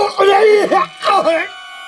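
A man holding his stomach screams in pain: two loud, strained cries with wavering pitch, the second trailing off into a quieter hum.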